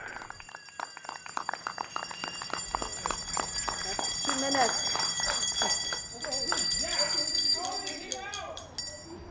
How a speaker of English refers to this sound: He leads a nightly chorus of bells and claps to show support for healthcare workers. And you heard the full 2 minutes of bells and whistles